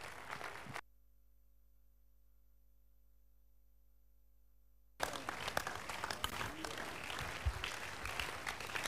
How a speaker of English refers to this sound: Would you please rise to your feet and appreciate this miracle working God with your hand clap of praise.